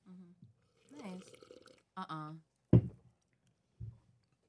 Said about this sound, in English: I had another question, but my slurp took the whole freaking thing.